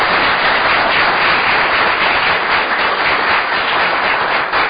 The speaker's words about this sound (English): So let's give them all a big round of applause, everybody.